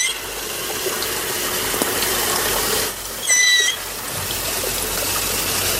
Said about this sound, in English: Is that really the dugong? I've heard... Sounds like a dolphin to a certain extent.